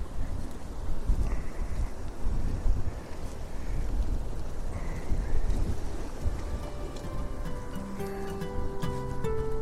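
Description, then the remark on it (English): Heavy, muffled wind buffets a recorder wrapped in protection against wind and rain, a continuous dense low rumble with gusty surges, joined near the end by faint tonal whines like a passing engine or rigging. “had to wrap the recorder up in all kinds of protection to protect it from the wind and the rain.”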